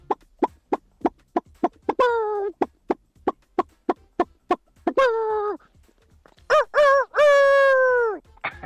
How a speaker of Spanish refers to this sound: Si hay gallina, pues también hay, atento Raúl, gallo.